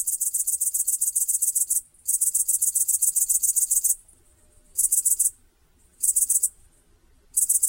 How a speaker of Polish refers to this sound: Pieśń pasikonika zielonego słyszalna jest nawet z odległości 150 metrów.